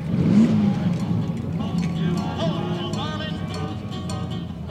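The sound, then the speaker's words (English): A car engine rumbles and revs steadily at the Pavilions Car Show, a low throaty drone running throughout, with the murmur of a crowd and scattered voices chattering in the background. “I'm retired, so I play with my cars. I'm at the Pavilions Car Show.”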